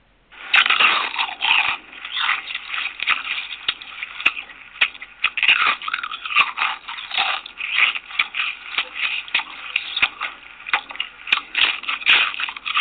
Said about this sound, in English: Every time a person crunches into a potato chip, he or she is enjoying the delicious taste of one of the world's most famous snacks, a treat that might not exist without the contribution of black inventor George Crumb.